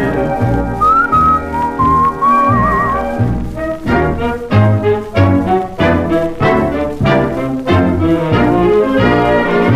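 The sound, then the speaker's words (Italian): Someone whistles a short, wavering melody for a few seconds over a band accompaniment, then the full instrumental music carries on loudly without the whistle. “Da solo me vo cantando così, la la la la la la la la, fischiando così.”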